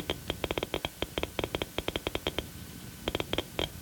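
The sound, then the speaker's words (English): A Geiger counter detecting alpha particles from polonium-210 clicks from its speaker in sharp, dry ticks at an irregular rate, bunching in quick clusters, pausing briefly, then resuming. A low hum runs underneath, and no one speaks. “Each burst of current makes a clicking sound come from the speaker. You've probably heard the instrument called a Geiger counter.”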